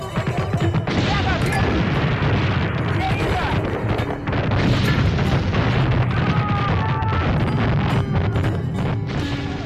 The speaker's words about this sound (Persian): آتش پرحجم دشمن همچنان ادامه داشت و صدای انفجارهای پی در پی با صدای رگبار کلاشینکوف و تیربار بچه‌های ما در هم می‌آمیخت.